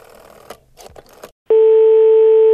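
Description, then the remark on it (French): Clattering, handling noises of an old telephone receiver being picked up, then a loud, steady dial tone hums continuously until the end. “Ouais, mon téléphone date un peu.”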